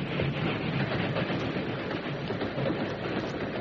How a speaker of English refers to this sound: Once over this grade, the train will make good time.